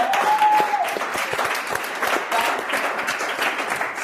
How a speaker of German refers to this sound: Applaus für Köln! Nur für heute!